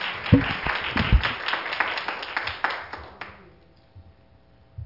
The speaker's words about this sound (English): One more hand clap for Jesus. You may be seated. Praise God.